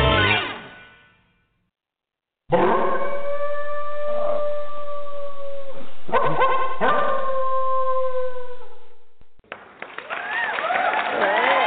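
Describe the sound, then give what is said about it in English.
Loud howling rises after a short silence, holding long wavering tones for several seconds before breaking off, followed by a burst of busy, bright noise. “Sometimes you howl, sometimes you clap.”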